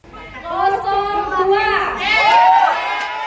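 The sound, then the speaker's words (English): A crowd of supporters of President Jokowi or his rival Prabowo Subianto cheers and shouts as votes are counted at a polling booth in Jakarta, Indonesia; many overlapping voices rise in pitch and swell into a louder burst midway before staying strong to the end. “With every vote counted, a cheer rang out from supporters of either President Jokowi or his rival, Prabowo Subianto.”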